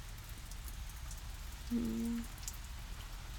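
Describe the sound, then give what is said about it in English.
Steady, soft rain patters continuously outside an open window with a dense, even hiss, fairly quiet, while a brief low humming tone rises faintly in the middle before fading. “It's nice, relaxing, just the sound of rain falling.”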